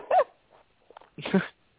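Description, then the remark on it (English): A dog barks in a few short, sharp bursts, with brief quiet gaps between them and a faint whine in the pauses. “I had to yell at my dog.”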